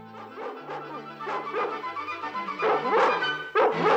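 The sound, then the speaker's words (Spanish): Several soot-covered dogs, including Pongo, taken for Labradors, bark and yip excitedly in quick, overlapping bursts, growing louder toward the end, over a low sustained tone. “¡Son labradores!”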